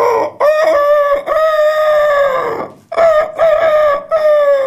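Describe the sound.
A loud voice imitates a rooster's cock-a-doodle-doo, two long strained crows one after the other with a brief gap between them.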